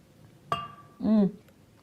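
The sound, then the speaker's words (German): A single bright clink of glasses rings out in a toast and fades over half a second, followed by a short burst of a person's voice. “Es ist ein Unentschieden, wir müssen ihn beide trinken. Prost!”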